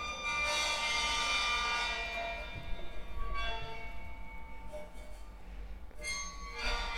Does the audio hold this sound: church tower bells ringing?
yes